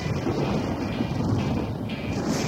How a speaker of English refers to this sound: The thunder boomed again.